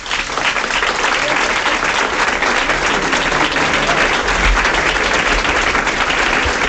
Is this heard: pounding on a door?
no